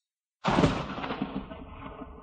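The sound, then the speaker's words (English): A sudden, loud crack of thunder, with a flash of lightning, bursts out of silence, then rolls on as a deep, rumbling roar that slowly fades without dying away. “Suddenly, there was a flash of lightning and the noise of thunder.”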